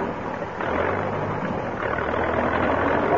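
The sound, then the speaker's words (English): A tractor engine rumbles to life and keeps running as it stretches a strong elastic, a steady, noisy drone with a low throb that grows slightly louder after the first half second. No one speaks. “I'll seat myself in the center of the elastic thus, and start the tractor, Professor.”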